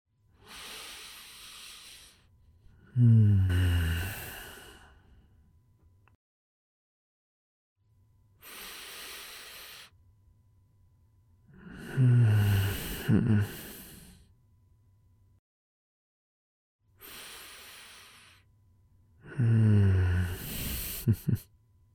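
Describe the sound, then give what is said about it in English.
Two people breathing together in slow, deep unison: three long cycles, each a hissing inhale followed by a heavier, sighing exhale, fairly loud, with quiet pauses between. “So right now, I'm just trying to match your breathing.”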